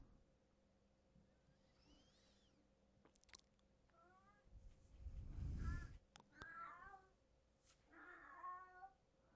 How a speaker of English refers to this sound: Oh, it's just the cats meowing.